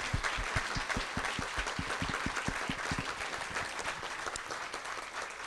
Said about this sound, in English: Thank you. Let's have a big round of applause for our panel.